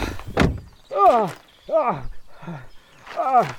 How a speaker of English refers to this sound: Could you just stop banging on the window, though? It's a hire car